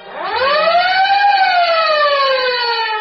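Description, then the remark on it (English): A loud siren winds up in pitch, peaks, then slowly sinks as it holds a steady, wailing tone for a few seconds, with no voices. “And remember, whenever you hear the siren and bell, think of Texaco.”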